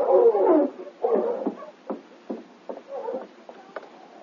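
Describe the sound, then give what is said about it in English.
A sled dog team barks and yelps in a moderately loud cluster as it stops outside a cabin at night, opening with two drawn-out whining howls, followed by a string of short, sharp barks at irregular intervals. “It was nearly an hour later when she finally heard his team stop outside the cabin.”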